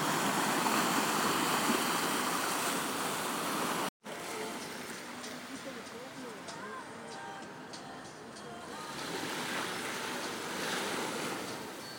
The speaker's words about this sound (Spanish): Que está lleno de olas, aquí rompiendo y rompiendo. Eso, eso.